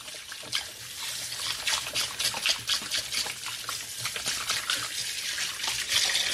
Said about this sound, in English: So I'm just going to wash my hands.